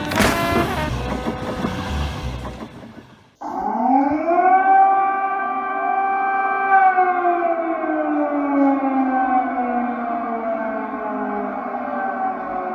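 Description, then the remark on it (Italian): A loud air raid siren in Kyiv, Ukraine, wails on 24 February 2022, the day Russia's attack on Ukraine began, in a long sustained tone, rising after a brief cut and holding steady, with faint background noise and no voices. “Quelle che avete sentito sono le sirene di Kiev, capitale dell'Ucraina.”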